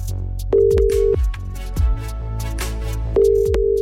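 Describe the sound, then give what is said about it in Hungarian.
A steady telephone ringback tone purrs twice, each about half a second to a second long with a gap between, over faint background noise; no one picks up a call made to pass on a personal thank-you message. “Ildikót hívom, akinek Józsi adta meg a telefonszámát.”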